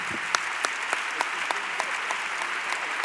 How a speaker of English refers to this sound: In Jesus' name, why don't we all clap our hands now all across the house and give God praise.